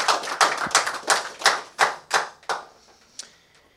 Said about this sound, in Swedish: Varmt välkommen till Inblick med Nick för första gången inför publik. Rasmus Paludan, varm applåd.